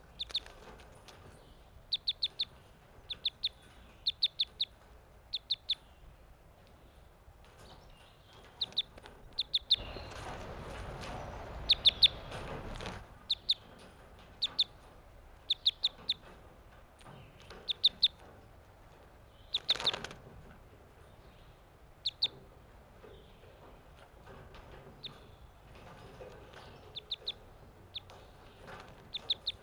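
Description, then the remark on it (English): Newly caught captive crossbills, taken on May 31st and including a male whose bill crosses to the left, give repeated sharp, high chip calls in quick pairs and bursts throughout, with a loud spell of wing fluttering and scuffling in the middle and another brief flurry later. No one speaks. “These are the new captives I caught today, May 31st.”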